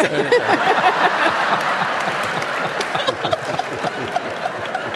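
A crowd applauds steadily for several seconds, a dense, continuous wash of many hands clapping at once, fairly loud, with no one speaking over it.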